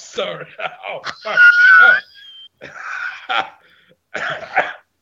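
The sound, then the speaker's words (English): A cat walled up inside a tomb wall wails in a series of strained, raspy yowls: a long wavering cry in the middle, then shorter rough bursts after brief pauses, fairly loud with no talk over them. “It's the cat!”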